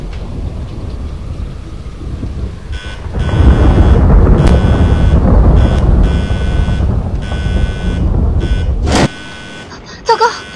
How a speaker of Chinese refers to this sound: 这风吹得人真舒服， 终于凉快了。 不过要下雨了，只怕是暴风雨。